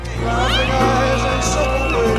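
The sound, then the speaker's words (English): A loud crowd roars and cheers continuously, with high-pitched screams rising above the dense, sustained din of an excited audience at a live concert. “When you're listening to this set, you can hear occasional screams.”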